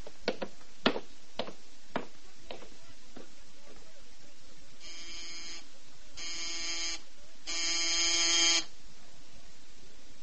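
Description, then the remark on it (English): A harsh electric doorbell buzzer at the door of Mr. Maynard, treasurer of the Mercantile Loan Company, sounds three times late at night in long bursts, the last one loudest and longest, after a run of sharp knocks or clicks at the start. “It was pretty late, and it took quite a while for Mr. Maynard, treasurer of the Mercantile Loan Company, to answer the doorbell.”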